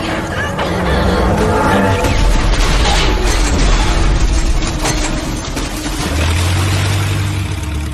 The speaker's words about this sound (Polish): Panowałem nad sytuacją, póki nie wysadzili statku.